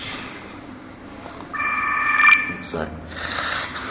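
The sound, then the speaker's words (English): A mobile phone rings briefly, a steady, bright electronic tone lasting about a second, rising above a constant low background rumble before cutting off. “I'm wondering he wasn't switching his phone on.”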